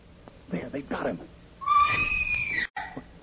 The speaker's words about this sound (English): Sounded like a woman's scream. A woman.